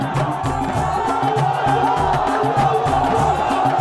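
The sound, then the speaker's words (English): A dense protest crowd in Egypt roars and shouts continuously, voices overlapping into a loud, chaotic din with rhythmic chanting pulses underneath, as pro-Mubarak supporters charge the crowd hurling stones and wielding sticks. “Suddenly, they charge the crowd, hurling stones and wielding sticks.”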